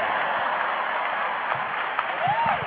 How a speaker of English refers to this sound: Oh, the women were clapping, but not because they believe in unity. It's because they're like going, they couldn't handle it.